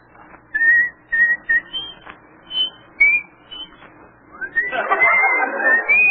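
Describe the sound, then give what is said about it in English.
A man whistles the folk tune Comin' Through the Rye in short, bright phrases with brief pauses, fairly clear, before a rougher burst of noise rises beneath the final notes. “Let me hear you whistle coming through the rye.”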